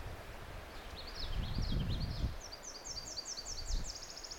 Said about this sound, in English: I'm trying to get the sound of a Tennessee warbler, but it's a little bit windy out here now in the bog.